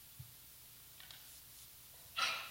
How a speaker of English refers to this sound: Bless you.